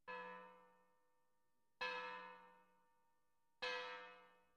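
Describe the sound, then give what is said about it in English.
A church bell tolls three times at a slow, even pace at 11 o'clock on a Sunday night, each strike ringing out loudly and fading into a long shimmering decay before the next. No voices are present. “Sykes and Fagin heard the church bell.”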